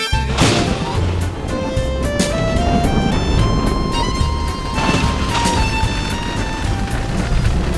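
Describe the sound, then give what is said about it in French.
A dense, steady roar of wind and rain fills the whole stretch, broken by repeated sharp crashes and booms of thunder, while high ringing musical tones rise and sustain over the storm. “C'est le vent qui souffle, c'est la pluie qui tombe, c'est le tonnerre qui gronde.”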